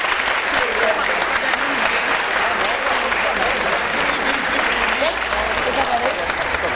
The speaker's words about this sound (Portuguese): recebe uma salva de palmas do povo da vela.